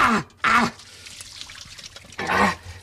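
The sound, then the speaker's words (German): Hot water is poured off cooked glass noodles, pouring and trickling in short bursts, with two or three louder gushing splashes separated by quieter dribbling, fairly loud. “Abgießen. Die Glasnudeln sind jetzt fertig und ich werde jetzt ab.”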